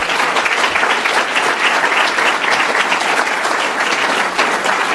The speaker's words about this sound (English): I think that certainly deserves a round of applause.